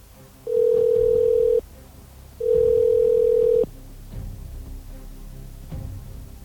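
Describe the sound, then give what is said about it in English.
Two steady touch-tone phone keypad tones from keys pressed in an AT&T automated billing phone menu, each lasting about a second with a short pause between, clear and fairly loud, followed by faint background rumble with no talking. “Okay, we do have a touch-tone phone, so let's hit 1.”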